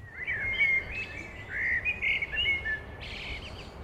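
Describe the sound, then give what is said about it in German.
A series of high, bird-like chirps and warbling whistles from someone imitating a bird call, rising and falling in short phrases over a few seconds with faint background noise and no talking. “Das war auf Vogel und das war auf Mensch.”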